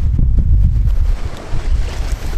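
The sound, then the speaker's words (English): Steady rush of water and wind against a sailboat cutting smoothly through waves, low rumbling wash with soft splashes, continuous and fairly loud, no engine noise, no voices. “See what I mean by cutting through the waves?”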